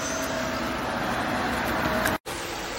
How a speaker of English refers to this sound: It's a lot of traffic, so I have to find a better place for you.